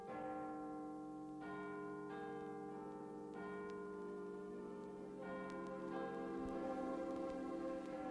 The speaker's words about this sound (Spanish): La noche de difuntos me despertó, no sé a qué hora, el redoblar de las campanas. Su tañido monótono y eterno me hizo recordar esta tradición que oí hace poco en Soria.